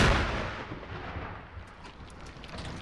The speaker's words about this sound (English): And you can also hear the dirt falling as well, kind of raining down on us.